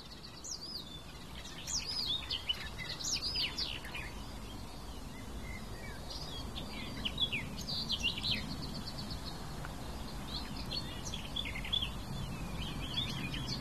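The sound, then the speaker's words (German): Calls of a red kite ring out among a busy mix of chirps and whistles throughout, over a steady low rumble of outdoor background noise. “das war doch mal eindeutig ein Rotmilan.”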